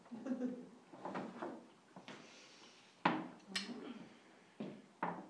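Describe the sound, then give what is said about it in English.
A big double door swings open with wooden creaks and scraping, followed by a series of sharp clunks and thuds, each ending abruptly. “maybe there's a ghost. Big double door.”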